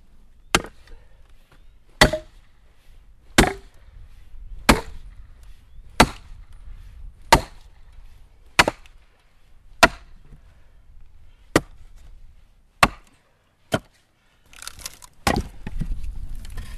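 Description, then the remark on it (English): An axe chops wood in a steady rhythm, about a dozen sharp, loud thwacks spaced roughly a second apart, ending in a burst of cracking and splintering as the wood splits. “I don't think anybody could beat me splitting wood.”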